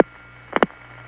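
A telephone call connects through a Number 5 crossbar switch at Little Falls, put through by the Herkimer using MF signaling: two quick, sharp mechanical clicks in close succession over a steady low line hum, with no voices and quiet line noise afterward.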